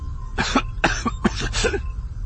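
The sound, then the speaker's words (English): A man breaks into a sudden fit of coughing, about four harsh bursts in quick succession, each followed by a short breath, with no talking. “At Belliblis's nod, one of the medics did something to the treatment wrap around the Imperial's upper arm, and as Han and Lando found places at the side of the bed, he coughed suddenly, and his eyes fluttered open.”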